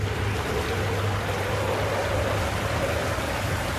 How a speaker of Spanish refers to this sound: De pronto, la calma se ve interrumpida por la lluvia. El agua se agitaba constantemente, golpeando el bote con las olas, y un viento azotador los preocupa.